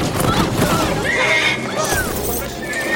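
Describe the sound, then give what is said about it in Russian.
Princess Anna's horse bursts into a town square, neighing loudly, its shrill whinnying calls rising and falling over a busy, rumbling background that may include hooves clopping. “На площадь выскакивает лошадь принцессы Анны.”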